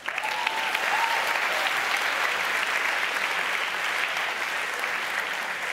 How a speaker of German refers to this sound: Eins, du bist super. Applaus für den Mann da.